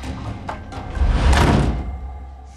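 A door slides and swings shut, a low rumbling rush that builds and ends in a soft heavy thud, with no voices and quiet room tone before and after, in a scene from season two of the TV series Physical.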